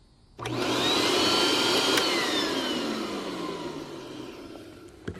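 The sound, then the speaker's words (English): A vacuum sweeper is switched on abruptly with a loud whirring roar, its motor whine holding steady for several seconds before easing slightly; no one speaks. “You have to be ready when somebody turns on the vacuum sweeper because it does make a noise.”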